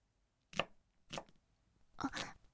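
A kitchen knife chops through food three times at an uneven, unhurried pace, each cut a sharp knock on the board, with quiet pauses between and no talking.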